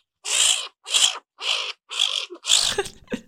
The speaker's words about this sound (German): Tut mir leid, liebes Stinktier, aber dann kommst du und es klingt auch wirklich biestig und garstig und vielleicht noch ein bisschen aggressiver als die Katze, nämlich so.